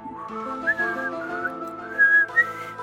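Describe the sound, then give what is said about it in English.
Someone whistles a short melodic tune, the notes gliding and wavering a bit unevenly, with a few louder swells near the end and no talking. “That was bad. I tried to whistle it.”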